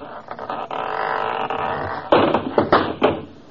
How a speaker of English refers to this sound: That door need a little tightening up, too. It fell right off.